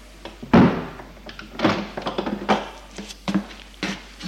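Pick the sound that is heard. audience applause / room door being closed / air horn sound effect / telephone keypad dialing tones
room door being closed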